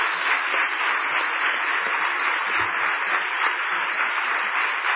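Steady, dense applause from an audience, a continuous wash of many hands clapping at an even loudness for several seconds with no voices standing out.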